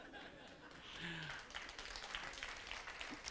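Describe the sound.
An audience applauds a preacher at the close of a sermon, a dense crackle of many hands clapping that swells and holds steady, with a brief voiced murmur or chuckle just before it builds.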